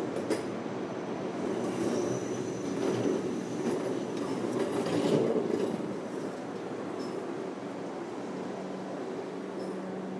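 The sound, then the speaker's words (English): A train bound for Richmond rumbles steadily along the rails, a dense low roar broken by scattered clicks and faint high-pitched wheel squeals, swelling slightly midway before settling back. No one speaks. “I can, you know, get on here, have a nice snooze, as it won't be going now for 15 minutes, and I'll be back in Richmond in half an hour.”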